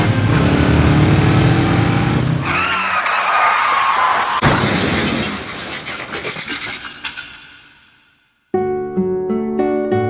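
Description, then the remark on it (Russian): A loud motorcycle engine roars and revs, then fades away into near silence before music abruptly starts. “Сергей Доренко умер как жил, на скорости, за рулем любимого мотоцикла.”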